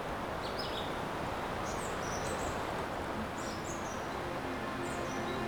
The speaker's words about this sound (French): Les oiseaux en sont, en quelque sorte, les chefs d'orchestre. Mmh. 700 mètres d'altitude. Mmh. Gorge de l'Afro. Mmh. En pleine forêt.